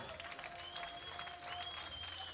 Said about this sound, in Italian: Un applauso a Thomas T, grazie.